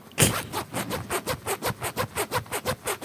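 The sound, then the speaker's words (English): A jeans zipper is unzipped to test whether the sound activates Siri, rasping in a quick, steady series of about a dozen short strokes, loud and clear with no talking over it. “That the zipper sound would activate it?”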